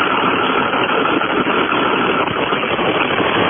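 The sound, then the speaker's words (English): A semi truck engine idles steadily and loudly, a continuous rumbling drone with a rough, rattling texture and no change in pace throughout. “Either that's an old-style news ticker machine, or that's the idling of a Kenworth truck.”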